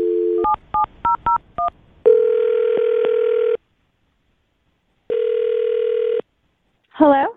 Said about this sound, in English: All right, well, I'll dial their phone number right now and see if we can find out why, okay? All right. All right, here we go.